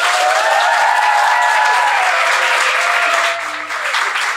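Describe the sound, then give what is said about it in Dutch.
Loud, thunderous applause from a crowd, given as a welcome for two hosts, with some cheering whistles on top, sustained steadily for several seconds before easing slightly near the end. “Ik wil graag een daverend applaus voor Coco en Miri.”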